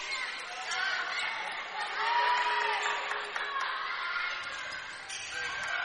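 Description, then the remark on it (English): A steady roar of crowd cheering and chatter at a volleyball match between the Lady Warriors and Edina fills the whole stretch, with scattered whoops and shouts rising over a continuous wash of voices, loud and sustained throughout. “If you're hearing cheering, that's coming from the match that's where I'm sitting.”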